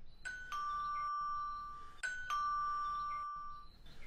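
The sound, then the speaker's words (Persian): A gate doorbell rings twice in a row, each time a clear two-tone ding-dong whose lower note rings out for over a second, fairly loud, with no talking. “زنگ دروازه است، من با اجازه‌تان برم ببینم کی است.”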